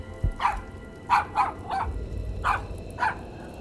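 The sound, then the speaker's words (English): A dog barks in a quick, uneven series of about six sharp yaps, moderately loud, over a low rumbling background with no one talking. “Come sit down, silly dog. There's nothing to worry about.”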